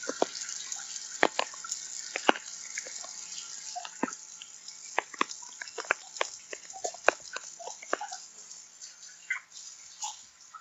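Tap water runs steadily into a sink, a continuous hiss broken by irregular splashes and drips as hands scoop and splash water while someone washes their face. No one speaks.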